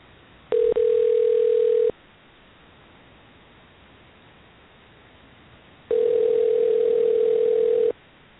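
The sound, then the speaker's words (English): A telephone line ringing on the caller's end during a call to Paramount Business Jets: two steady, mid-pitched buzzing rings, each lasting about two seconds, separated by a long silent pause over a faint hiss. “Since this worked so well the last time, I'm going to go ahead and try calling her on the line and seeing if this works.”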